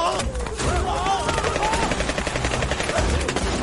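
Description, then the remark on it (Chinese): Rapid, loud gunfire crackles in quick succession as shots are fired at a pack of wolves, shots blurring into a dense rattling burst over a rumbling, chaotic background, with a brief tonal cry or whine early on. “不是说狼都怕枪吗？他们怎么什么都不怕呀？”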